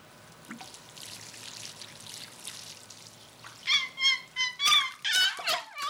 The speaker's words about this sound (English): These basils look thirsty. Watering the plants, about another 6 gallons.